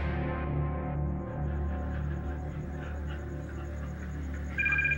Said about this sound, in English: The next evening, Ben Glisson is in his bedroom when the phone on the nightstand rings. It's 10:30, unusual for someone to call this late, so it can't be good news on the other end of the line.